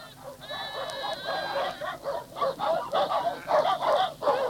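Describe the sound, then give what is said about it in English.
Four or five dogs bark in a rapid, overlapping chorus, harsh yelps rising and falling in quick bursts, moderately loud, with a thin high whine early on. “Yeah, at least four dogs, I should think. Sounds like it.”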